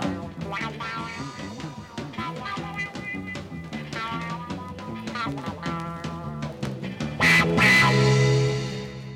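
Electric guitar through a wah-wah pedal, its tone sweeping in a vocal, quacking way over steady backing music, growing louder with a bright burst near the end. No one speaks.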